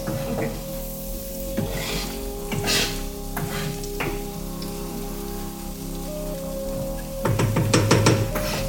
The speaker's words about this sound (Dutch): De look moet je niet stoven of bakken of doen. Gewoon mee sudderen.